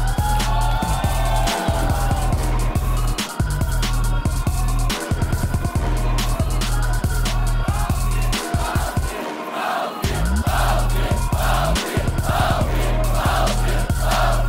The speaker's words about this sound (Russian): Под ваши аплодисменты.